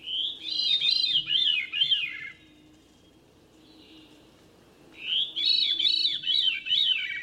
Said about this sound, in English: Or a thrush, like this veery.